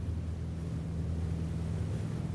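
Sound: boat moving through water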